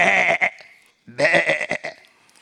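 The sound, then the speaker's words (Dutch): Two loud, nasal sheep bleats, the first wavering briefly, then a short pause before a longer, quavering second bleat; no voices. “Maar David liep daar met zijn schapen.”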